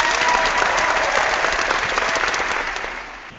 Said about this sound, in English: So, all right. So, let's get the crowd fired up and let's get going.